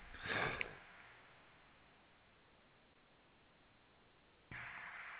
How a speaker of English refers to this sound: Let me clear my throat real quick.